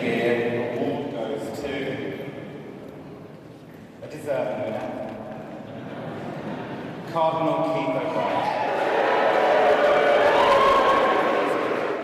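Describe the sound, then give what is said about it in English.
A large crowd at an awards event reacts loudly as TV fashion host Gok Wan announces the winner of the bigot category, voicing its feelings about Cardinal O'Brien: a continuous roar of voices, shouts and cries swelling in waves and building toward the end over about twelve seconds. “Well, we can hear the reaction there, John, but I mean, pretty controversial scenes.”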